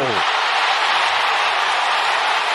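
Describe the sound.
A loud, steady roar of Cardinals fans cheering at Wrigley Field on a Saturday as the baseball game is tied 4-4, a dense wash of crowd noise that holds at full strength throughout, with a brief voice at the very start.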